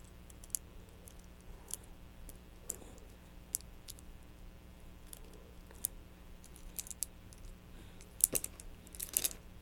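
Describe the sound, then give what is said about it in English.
Little keys clicking in sparse, irregular taps, ending in a brief cluster of brighter jingly clinks. Fairly quiet, with a low steady hum underneath and no talking. “You like those little keys?”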